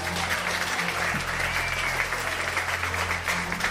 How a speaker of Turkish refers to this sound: Niye alkışladı lan bu beni?